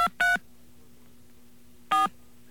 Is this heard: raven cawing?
no